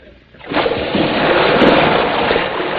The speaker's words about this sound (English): We would have heard a splash. Well, you know, this is a very high deck.